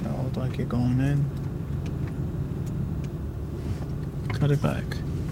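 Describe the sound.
A car engine idles and rumbles steadily at close range as the vehicle creeps slowly along, with brief muffled voices briefly rising over the low drone.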